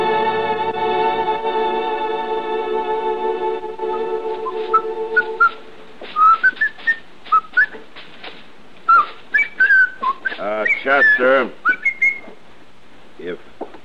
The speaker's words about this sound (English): You insist on whistling. Would you mind doing it outside?